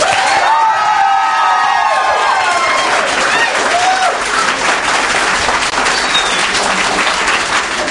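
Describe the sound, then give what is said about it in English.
A large audience applauds loudly and steadily for several seconds, with scattered whoops and cheers rising above the dense clapping, voting by applause on whether marijuana should be legalized. “How many people here think that marijuana should be legalized by applause?”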